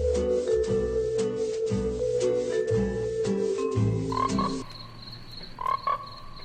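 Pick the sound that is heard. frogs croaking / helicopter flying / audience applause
frogs croaking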